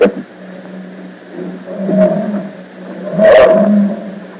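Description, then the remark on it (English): Deep animal roars swell twice over a steady low rumble at a circus big top, the second one louder and rougher, with a busy, echoing crowd-like ambience underneath. “As our story continues today, we find ourselves one of the big tops for the young detectives.”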